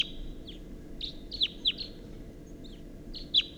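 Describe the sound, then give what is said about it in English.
High, sharp bird calls ring out in quick bursts, several overlapping notes from at least a pair of wild birds calling back and forth from an oak tree at 6:14 a.m., over a low, steady background hum. “and there's at least a pair, and they're calling from the oak tree, and there's one in the oak tree, and that's a wild bird.”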